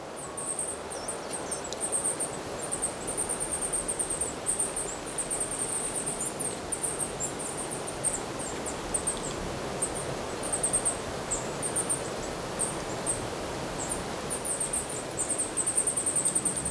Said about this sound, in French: Des gazouillis, des êtres vivants ou magiques, selon votre état de croyance ou de contemplation.